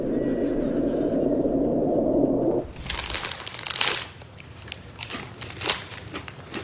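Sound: crunching tortilla chips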